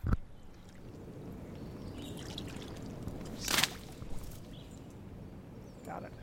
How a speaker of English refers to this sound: That, my friends, is the sound. It's one unhappy dragonfly stuck in the net, buzzing its wings against the net. There. This is something called a slaty skimmer, so named because it's sort of this dark grayish blue color.